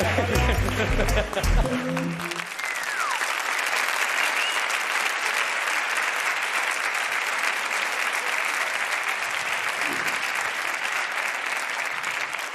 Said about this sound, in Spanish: ¿No os ha gustado? Voy a aplaudirme un poco.